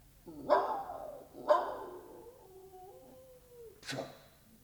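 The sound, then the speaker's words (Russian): A dog named Yasha gives two loud, drawn-out barks about a second apart, followed by a thin falling whine and one short, sharp bark at the end. “Это кто? А, это Яша.”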